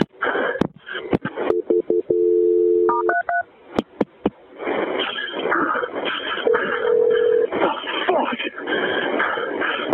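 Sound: telephone call being transferred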